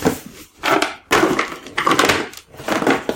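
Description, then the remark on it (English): A cardboard card box from a card game is crushed and crumpled in four loud, crackling bursts, each a rough papery crunch with short pauses between, and no voices. “The box is shriveled. Noisily.”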